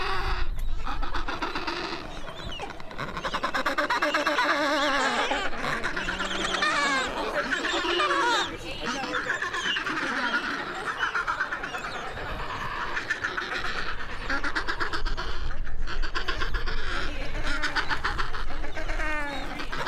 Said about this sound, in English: And I remember how freaking rugged those little birds were. So these are Adélie penguins. They're not the tallest penguin, emperors, but they're fluffy and they are robust.